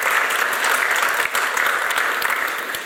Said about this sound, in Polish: Witamy serdecznie, brawa gorące.